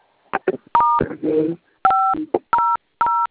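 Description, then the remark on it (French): Four clear telephone keypad touch-tones beep one after another at uneven intervals as the code star 500 hash is dialed, with brief muffled voice sounds and clicks in between. “Vous composez le code étoile 500 dièse, d'accord?”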